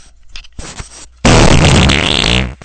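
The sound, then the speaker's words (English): After a few soft crackly pops, a woman's loud, drawn-out fart erupts for over a second, raspy and sputtering with a wavering buzzy pitch, then cuts off abruptly. No one speaks. “I mean, it sounds like she's actually putting the microphone up to her ass and farting, but the fart doesn't sound, all that real.”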